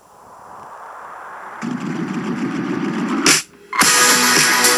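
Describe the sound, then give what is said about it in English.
A new 5-gallon water jug is put on a Sparklets water dispenser and settles: a rising rush, then steady low glugging bubbles, a brief pause, and a loud burst of gurgling water as air rushes up into the bottle. “They just put a new 5-gallon jug of water on the Sparklets dispenser.”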